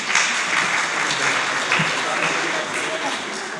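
Steady audience applause fills the whole stretch, a dense, even wash of many hands clapping at a fairly loud level with no pauses.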